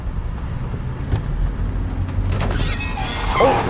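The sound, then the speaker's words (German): A nearly new car wheel rim scrapes against a curb over a steady engine rumble, a harsh grinding rasp rising near the end into a brief high-pitched squeal, fairly loud. “Ich glaube, das war die Felge.”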